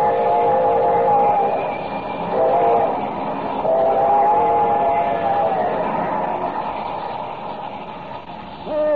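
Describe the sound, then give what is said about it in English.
A train rumbles steadily along with a continuous low roar, its horn blaring in long sustained tones over the clatter, loud throughout. “Can I reach that bridge before the train does?”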